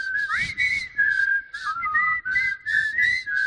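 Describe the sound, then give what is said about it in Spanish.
A person whistles a wavering, high-pitched melody for several seconds, the tune gliding and bending between notes over a rhythmic, bursty background of noise. “La gente que entra silbando por su taller.”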